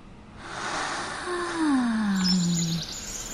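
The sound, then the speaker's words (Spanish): A bird chirps and warbles, with a smooth falling tone sliding down, followed by a quick run of faint high twitters near the end. No one speaks. “Un pájaro me canta y yo le canto. Me gorjea al oído y le gorjeo.”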